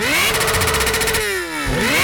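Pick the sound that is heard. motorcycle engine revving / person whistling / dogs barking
motorcycle engine revving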